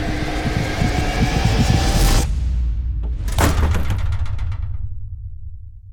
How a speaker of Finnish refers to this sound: Kahvassa oleva ryhmänjohtaja valmistautui. Veti syvään henkeä ja kiskaisi ovea.